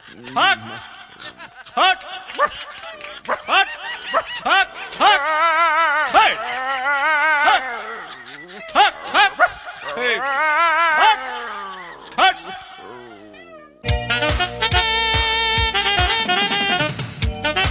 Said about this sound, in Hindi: रे साला हटाओ ना रे कुत्ता को, हटाओ ना कुत्ता को, मारो साला को।